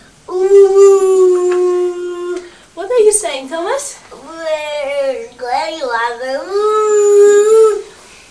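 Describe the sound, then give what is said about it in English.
A child's voice imitates a train, holding a long, steady, high hooting tone like a whistle, then breaking into wavering, sliding vocal sounds while an adult briefly speaks. “Is that how the train goes?”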